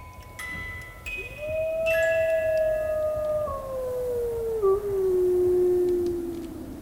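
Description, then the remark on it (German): Wind howls through castle halls on a bitterly cold winter day, rattling the windows: a long, steady moaning tone that swells in, then slowly slides downward in pitch over a constant rushing hiss, with no voices present. “Der Wind fegte durch die Hallen und rüttelte an den Fenstern.”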